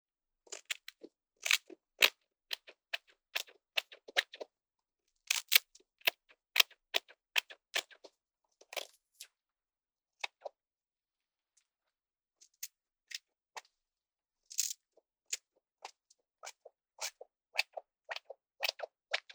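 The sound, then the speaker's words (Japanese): Scissors snip through a customer's hair during a haircut in quick rhythmic bursts, clusters of crisp cuts separated by short pauses, with no talking. “そして、リズムよく切っていくハサミの音に耳を澄ませて。”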